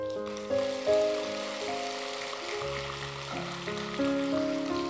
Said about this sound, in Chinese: 故事还没讲完呢，所以你们鼓掌鼓得早了一点。